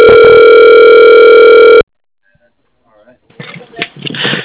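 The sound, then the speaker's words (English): A loud, steady telephone tone of stacked pitches drones for nearly two seconds while a call to Echo Transportation is transferred to an extension, then cuts off abruptly into silence before faint muffled line noise and rustling rise. “Not sure, but let me try and transfer to his extension, sir.”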